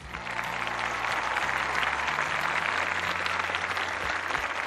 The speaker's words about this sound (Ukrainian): Тож, для вас подарунок сьогодні – бурхливі оплески.